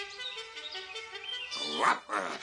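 A dog gives two short, fairly loud barks close together near the end, following a stretch of steady chirping and tonal background sound.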